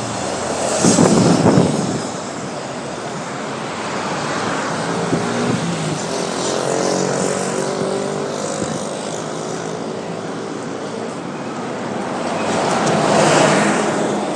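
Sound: city street traffic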